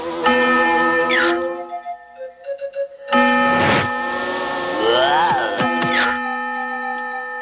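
A barnyard clock chimes loudly at dinner time, striking seven at uneven intervals, each bright metallic tone ringing out and lingering in a sustained, resonant hum. No one speaks.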